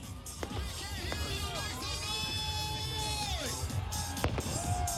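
A street crowd of hundreds of thousands at the Gasparilla pirate parade in downtown Tampa in January, on a cold, windy day, cheers and murmurs in a steady, dense roar, with whistle-like tones sliding through it and a few sharp pops cracking out.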